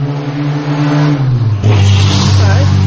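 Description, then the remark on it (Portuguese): A loud car roars past, its engine note dropping and then surging into a strong rev, filling the whole stretch with a heavy, mid-pitched rumble. “Esse foi um carro barulhento.”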